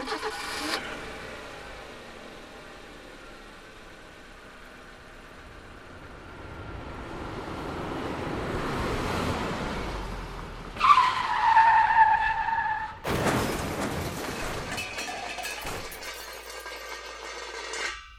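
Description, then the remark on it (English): A car engine swells and approaches, tires shriek in a long skid, then a loud crunching crash of impact with debris rattling as it fades. No one speaks. “Here's the sound of a car accident.”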